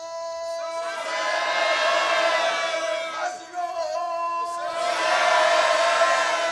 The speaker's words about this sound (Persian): پس از نوحه جهت آماده سازی مستمع برای سینه زنی سنگین، میاندار با کلمه مظلوم فریاد سر می دهد و مستمعین فریاد حسین.